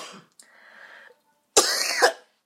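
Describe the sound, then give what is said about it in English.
A raspy, throaty cough from a person with a bad cold rattles out first, followed after a short pause by a louder, harsh hacking cough, both alone with no talking. “I actually have a really bad cold and even worse cough.”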